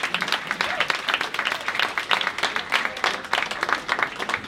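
An audience applauds steadily for several seconds, many hands clapping in a dense, continuous patter at a moderate level, with no voices standing out above it.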